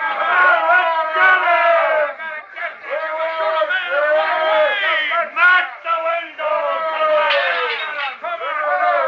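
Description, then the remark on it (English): An angry crowd of many voices roars and shouts together in a loud, continuous swell, rising and dipping in waves of yelling, as it tries to take a man from a sheriff and his deputy. “Because they aren't certain they can prevent the crowd from taking you. And then the tide rises to a terrifying peak.”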